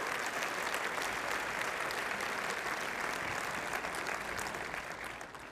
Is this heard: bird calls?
no